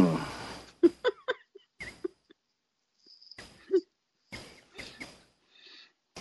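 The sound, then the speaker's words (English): A rabbit sniffs close to the microphone, a series of short, quick breathy puffs in uneven bursts with brief pauses between, with faint chirpy squeaks mixed in. “So you get a close-up of the bunny sniffing?”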